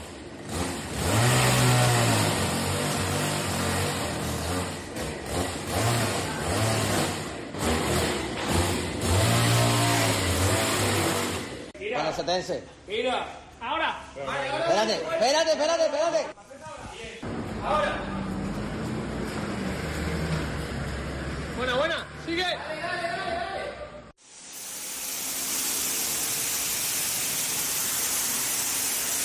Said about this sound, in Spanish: Esto que escucháis es una motosierra, una máquina de alta presión para limpiar suelos, paredes, garajes o lo que se ponga por delante, o Rodrigo Conde con un grupo amplio de compañeros retirando coches de los garajes.